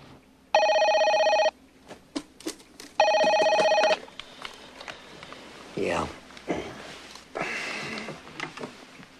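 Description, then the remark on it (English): A telephone rings twice in the White House at 5 a.m. in loud, steady bursts with a harmonic electronic tone, followed by shuffling movement as a sleepy man answers and a person's voice. “A phone rings in the White House, and a sleepy … answers it.”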